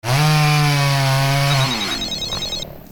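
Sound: chainsaw running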